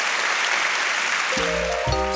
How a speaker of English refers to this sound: I think you'll join me in those sentiments. Big round of applause.